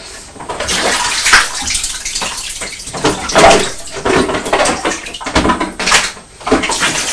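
Water sloshes and splashes in a washing-up bowl in a kitchen, with irregular bursts of splashing and trickling, some louder surges, continuing throughout without any talking.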